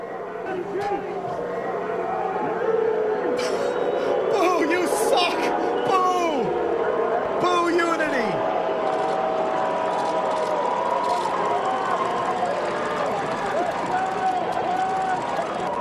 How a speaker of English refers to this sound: Thanks for booing our asses off the field. They booed the unity thing.